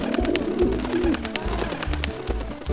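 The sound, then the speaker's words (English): Several trained doves coo steadily in low, throaty tones while quick fluttery bursts of wings flapping repeat throughout as they take to the sky during a magician's act before a crowd, fairly loud with no talking. “And now, folks, feast your eyes as my trained, synchronized doves take to the skies!”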